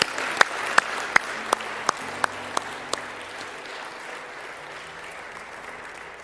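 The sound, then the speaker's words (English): A church audience breaks into steady applause, giving the Lord a hand clap during a morning service, a dense wash of many hands clapping together, with a few sharp louder claps standing out near the start before the sound gradually thins and fades. “Why don't you give the Lord a hand clap this morning?”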